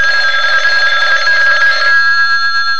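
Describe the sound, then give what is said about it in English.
A telephone bell rings loudly, one sustained trilling burst of about two seconds that cuts off abruptly, leaving a faint lingering hum. No one speaks. “I was catching winks one afternoon when the phone...”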